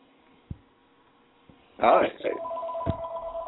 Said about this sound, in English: You want us to hold while you take that? I hear the phone ringing in the background. You want us to hold real quick, or what's going on?